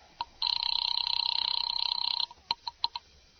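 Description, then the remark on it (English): A telephone ring tone heard over the line while calling an office number in the Murray Hill exchange: one long warbling electronic ring lasting nearly two seconds, followed by a few short clicks and blips, slightly thin. “Ringing Murray Hill”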